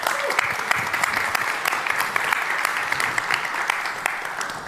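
An audience applauds steadily to welcome a speaker before a talk, a dense, even patter of many hands clapping at once with sharp individual claps popping out, sustained at a fairly loud level throughout.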